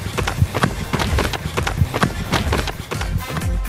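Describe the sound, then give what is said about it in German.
Quick, steady footfalls of someone running, each step a sharp thud in a brisk regular rhythm, fairly loud against a constant rushing background. “Genug gequatscht, lass uns weiterlaufen.”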